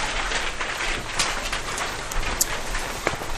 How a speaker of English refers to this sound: Well, it sounds like rain, didn't it? Yeah. Or applause, one or the other. Rain. Rain is good, yes.